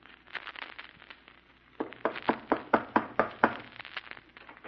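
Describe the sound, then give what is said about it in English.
A man knocks on a door: a rapid series of firm knocks, about eight sharp raps in a steady rhythm, fairly loud, preceded by a few fainter taps, with no voices. “Yesterday I put an ad in the paper for a butler, and this morning a strange-looking man, a very strange-looking man, came knocking at my door.”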